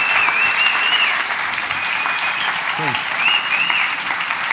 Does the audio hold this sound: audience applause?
yes